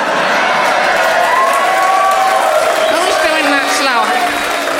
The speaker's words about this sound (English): Who's doing that slow hand clap? Oh, it's Tiny Andrew Collins.